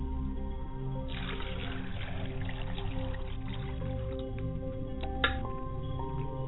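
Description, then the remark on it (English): Liquid is poured out as a libation toward the west in a soft, splashing trickle, followed later by a brief second splash, over a steady low background hum. No one speaks. “Pouring libation to Tahuti. I pour libations to the south, which is Heteruti.”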